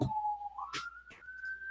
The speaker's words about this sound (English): We'll let the siren go by. I don't know if you can hear it.